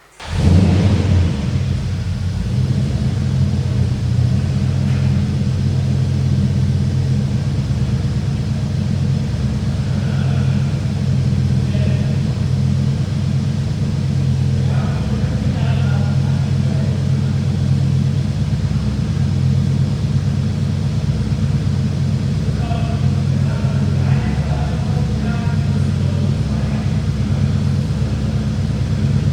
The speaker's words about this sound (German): Aber der Motor, muss man sagen, ist ja ein 5 Liter V8, der basiert auf dem alten 3.9er Motor von Rover.